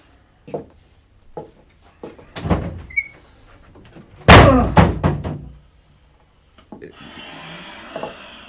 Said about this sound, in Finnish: Se käy hermoille tuo ovi. Kun se joskus menee niin hiljaa kiinni kuin kissa menisi siitä. Mutta jysähtää se ehjä ovi, kun sitä vetää kovasti.